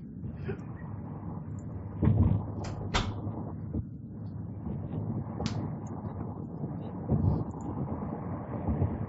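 A door is pushed shut with a few dull thuds and clacks, against a steady rumbling background with faint muffled noise throughout.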